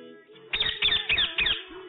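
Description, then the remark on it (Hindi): A parrot gives four harsh, raspy squawks in quick succession, loud and evenly spaced, after a brief quieter lead-in, with a faint trailing note at the end. “आपने कहा तोता, आपका जवाब दुरुस्त है।”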